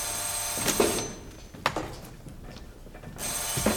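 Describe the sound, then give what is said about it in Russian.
An old-style telephone bell rings, its rattling, clattering trill coming in two loud bursts separated by a quieter stretch of background noise. “Вы что, не слышите, что телефон звонит?”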